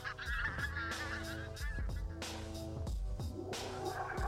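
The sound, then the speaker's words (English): A flock of pink-footed geese honking, many loud, nasal calls overlapping in a steady chorus with sharp repeated bursts and no talking. “It's possible that the pink-footed geese followed their lead, which could prove to be a rare example of cultural knowledge being transmitted between species.”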